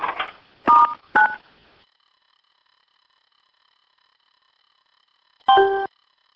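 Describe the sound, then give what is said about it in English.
Telephone keypad tones pressed to mute a conference call phone line: two quick beeps close together, then a long silence before a third, slightly longer tone. Each is clear and moderately loud, with a brief murmur at the very start. “let's put the phone line on mute, and then I'll ask you to go ahead and get started.”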